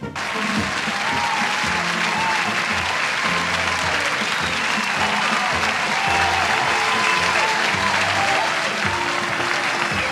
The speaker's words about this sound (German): Ja, en zo is wel genoeg, jongens. Genoeg applaus.